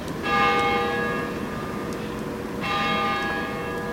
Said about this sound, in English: The bells of the Cathedral of the Immaculate Conception ring out across the western end of downtown as office workers rush to get lunch.